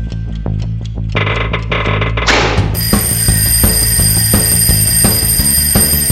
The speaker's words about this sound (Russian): кажется, звонит мой будильник. Беги на звук.